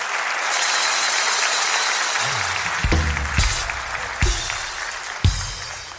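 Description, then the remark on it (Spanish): A crowd applauds steadily, a dense wash of clapping that fills the whole stretch, with a few louder sharp claps and thumps standing out near the end. “Un fuerte aplauso para ellos, por favor, fuerte el aplauso.”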